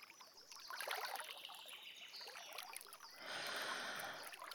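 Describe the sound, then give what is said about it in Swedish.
Soft water of a large lake laps and trickles around a person floating on their back on a sunny summer day, a steady gentle wash that swells slightly brighter toward the end, with no voices. “Jag ligger på rygg och flyter i den stora sjön.”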